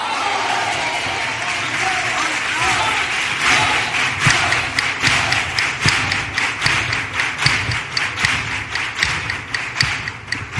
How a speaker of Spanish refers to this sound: Gracias a cada aplauso de este teatro, podéis estar tranquilos que hay cuarteto para el rato.